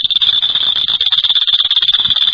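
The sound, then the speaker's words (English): A clicker toy held over the microphone element rattles off rapid, continuous clicks, loud and harsh with a shrill, piercing ringing tone running through the whole stretch. “Our technique is to take the clicker liquor, hold it over the element of the microphone.”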